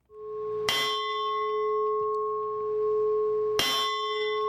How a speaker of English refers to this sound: This bell tolled in protest before an execution in August.